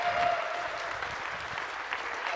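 A steady wash of applause from a crowd, many hands clapping at once in a dense, continuous patter that holds at an even level throughout without any voices.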